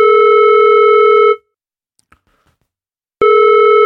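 A loud, steady telephone ringing tone sounds for over a second, goes quiet with a few faint clicks, then starts again, the familiar ring-pause rhythm of a call being placed.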